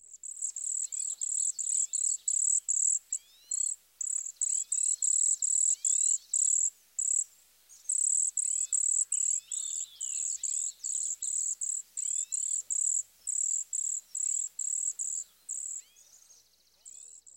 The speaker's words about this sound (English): We'll start out with the cedar waxwing. This attractive species gives a simple, high-pitched zee, zee, zee, zee, zee.